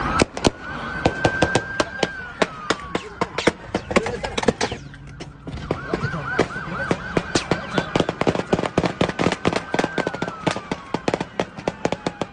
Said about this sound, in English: Police have guns drawn in that area. This is pretty dangerous with so many other cars around. Shots fired. Yes, shots are fired. Shots have been fired.